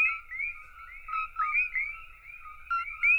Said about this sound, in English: And Cokie frogs shatter that quiet in their invaded habitats. They so dramatically alter the soundscapes.